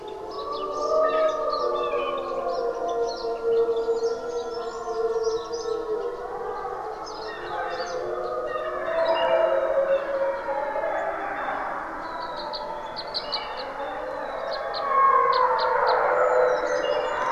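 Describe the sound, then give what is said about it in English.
A wild wolf pack in Algonquin Park, Ontario, howling together in a long chorus, several wavering, overlapping howls rising and falling at once, with higher yips scattered above, steady and fairly loud throughout with no talking. “And there are still wolves there. And they are wild and kept wild, and they don't shoot them or hunt them in Algonquin Park.”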